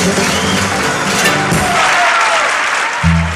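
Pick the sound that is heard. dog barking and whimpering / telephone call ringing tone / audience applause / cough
audience applause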